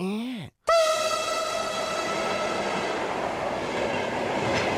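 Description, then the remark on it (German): A train rumbles past while its horn blares loud and sustained, right after a brief sliding tone and a split-second pause. “Falsch, auch nicht mit der Eisenbahn.”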